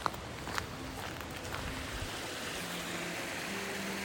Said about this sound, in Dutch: We zijn nog langs een paar mijnen gelopen. En er is overal water wat naar beneden komt.